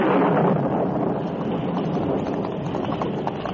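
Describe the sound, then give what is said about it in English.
A loud, steady roar of stormy wind and pouring noise from a sudden thunderstorm fills the whole stretch without pause. It stays dense throughout, with no voices. “a short time after the Lone Ranger and Tonto started to help in the search, a sudden thunderstorm broke”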